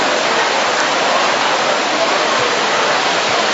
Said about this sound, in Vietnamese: Đừng có đừng cái dù đó, vào bên trong ngồi. Mưa ướt hết.